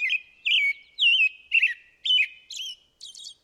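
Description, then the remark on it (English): An American robin sings a clear, warbling song of seven short caroling phrases, evenly spaced with brief pauses, alone with no other sounds. “And some species, like American robins, keep the show going until sunset.”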